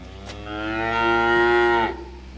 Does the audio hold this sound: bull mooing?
yes